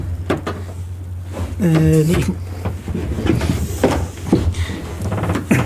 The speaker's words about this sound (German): Ich komme gerade ständig an meinen Stuhl ran und mein Stuhl sinkt nieder.